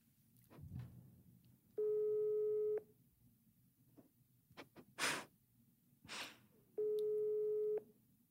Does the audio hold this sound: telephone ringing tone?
yes